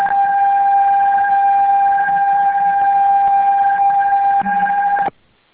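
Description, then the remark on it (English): A loud, steady electronic telephone tone, two blended pitches like a held touch-tone beep, sounds unbroken for about five seconds before cutting off abruptly. No one speaks. “So who was doing that? Is that our phone here?”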